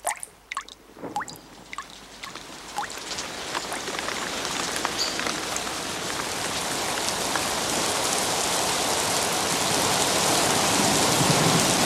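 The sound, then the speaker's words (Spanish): Rain starts with scattered drops pattering on wet, muddy ground by a small bridge over an irrigation ditch, then quickly thickens into a steady, dense downpour that floods a shoe print in the mud, growing louder and filling the scene with a continuous hiss. “La lluvia arrecia inundando la huella.”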